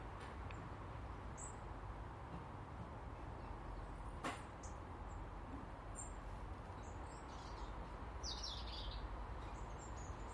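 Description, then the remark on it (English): Scattered high chirps and calls from flocks of birds flying overhead, faint and intermittent over a steady wash of outdoor background noise. “Flocks of birds flying overhead.”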